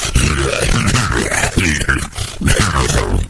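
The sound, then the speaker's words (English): A voice makes loud, throaty hacking and gagging noises, like a cat coughing up a hairball: a few strained, growling retches in a continuous bout with no words. “Sorry, I coughed up a human hairball.”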